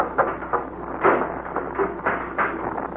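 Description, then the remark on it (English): A crew quarters door is shut and locked, with a quick series of wooden knocks, rattles and metallic clicks spread across a few seconds and no voices. “Take a grenade and go forward and lock their door.”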